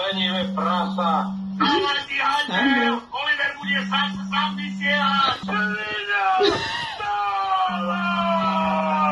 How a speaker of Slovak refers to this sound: Toto video natočila o 5 ráno moja žena. Vypozadím nejakého muža, čo mu niekto kričí pri hlave a on proste sa nezobudí.